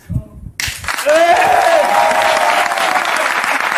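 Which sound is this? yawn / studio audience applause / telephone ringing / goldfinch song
studio audience applause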